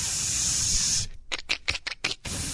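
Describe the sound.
A voice imitates an aerosol spray can: one long steady hiss, then a string of short, sharp spritzing bursts in quick rhythm, fairly loud with no other talk.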